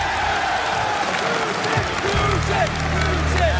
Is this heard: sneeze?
no